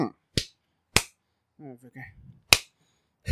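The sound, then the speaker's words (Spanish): Sharp hand claps ring out four times at uneven intervals, used as a clapperboard to mark a take, with a brief murmured voice between the second and third. “Sonido de claquito.”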